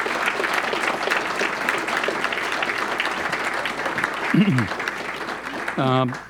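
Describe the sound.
An audience claps in a steady, dense round of applause, with a few voices calling out near the end as the clapping continues at a fairly loud level.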